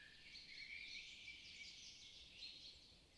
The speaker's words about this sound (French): Vous l'écoutez un instant et vous remarquez qu'une deuxième musique vous accompagne depuis le début de cette promenade. C'est celle de dizaines d'oiseaux qui célèbrent aussi cette nature enfin réveillée après un si long hiver.